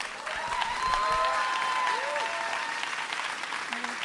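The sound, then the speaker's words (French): Steady audience applause for the guests after a question-and-answer session fills the whole stretch, a dense wash of many hands clapping at a fairly even level, with a few faint tonal sounds drifting underneath. “Je pense qu'on peut encore les applaudir.”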